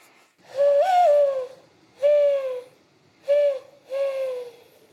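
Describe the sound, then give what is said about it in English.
Four hollow, breathy coos blown through cupped hands in imitation of a mourning dove: a longer first note with a slight rise, then three shorter ones, clear with no talking. “even learned to coo like a dove by blowing into her cupped hands.”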